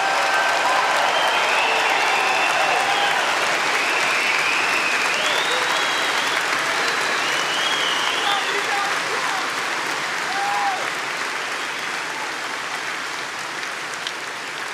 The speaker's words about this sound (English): And I know we have many veterans in the audience today, and we want to give them a big, big, beautiful round of applause.